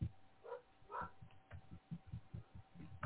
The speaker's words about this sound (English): Our dogs are just going nuts